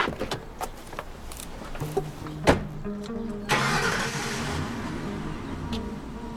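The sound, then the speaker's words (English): A car engine cranks and catches, several clicks and thumps beforehand, then revs up steadily with a broad rushing roar as the car pulls away down a street. No voices. “As it pulls out behind him, he starts to sprint down the street after it.”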